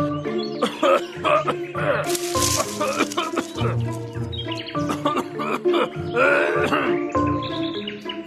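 Harsh, repeated coughing fits and throaty hacking from a nearby bush on a warm April morning go on almost nonstop, fairly loud, with chirpy bird-like calls mixed in among the coughs.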